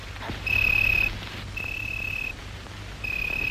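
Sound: crickets chirping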